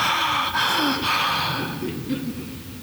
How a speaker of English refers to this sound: When we are exerting ourselves, we almost gasp for air, gulping it in, and we pant to push it out.